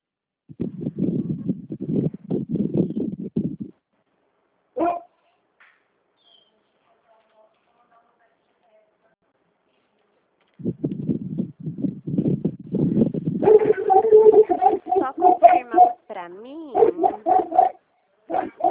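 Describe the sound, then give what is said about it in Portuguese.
A female dog barks and yaps in a rapid run of sharp, high bursts near the end, following stretches of low muffled voice-like sound and a brief pause. “Nossa, deixa eu ver, o que é a cabeça dessa cachorra? Cala essa boca!”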